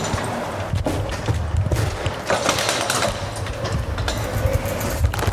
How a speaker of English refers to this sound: The thing is, though, as you might be able to hear, I also have my bike. Click. There goes the door. As I open it, this is going to be tricky to manage to get this bike out of the door.